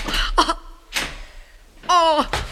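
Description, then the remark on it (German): The handle of a locked door is jiggled and rattled a few times, the latch clicking without giving way, followed by a short vocal sound. “Ja, oui, hier ist eine Türe.”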